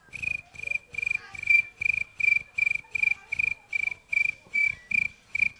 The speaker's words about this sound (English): And finally the crickets. I've always enjoyed crickets. You know, they're a lot of fun.